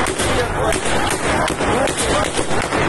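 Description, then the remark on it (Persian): A rapid series of sharp gunshot-like cracks rings out over a loud, chaotic crowd of shouting voices, the bursts coming irregularly and continuously through a noisy outdoor street scene, as police fire on stone-throwing protesters outside Police Station 16 in Zahedan, Iran. “معترضان سنگ زدند، نیروهای پلیس گلوله.”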